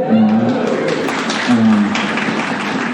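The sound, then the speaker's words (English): Audience applause at a Sunday church gathering: dense, steady clapping from many hands that fills the whole three seconds at an even, fairly loud level, with a couple of brief voiced tones rising out of the crowd. “But also really fun to be able to say, so I wasn't fishing for applause like that.”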